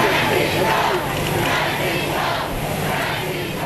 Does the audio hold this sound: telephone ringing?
no